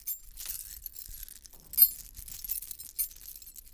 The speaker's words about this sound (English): Keys.